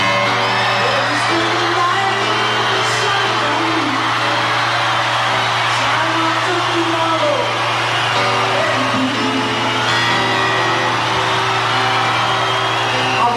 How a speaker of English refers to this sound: There is a reunion taking place. On stage. These are the people that have performed all day, and that's what you're hearing the crowd yell about.